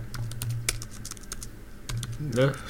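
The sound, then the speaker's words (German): Rapid clicking of computer keyboard keys as someone enters details on the Lufthansa website, a steady run of crisp taps with brief pauses, over a low background hum and a short voiced sound near the end. “Ah ja, okay, er muss ein bisschen tippen.”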